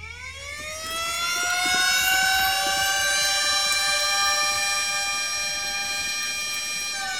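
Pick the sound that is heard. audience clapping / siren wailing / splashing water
siren wailing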